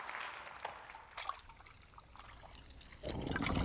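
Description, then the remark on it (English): In the animated Beauty and the Beast, Belle pours hot water from the teapot Mrs. Potts into a bowl in the castle: a thin steady pour that swells into a fuller, louder splashing stream near the end, with no talking. “In animation in the castle, Belle pours hot water out of Mrs. Potts into a bowl.”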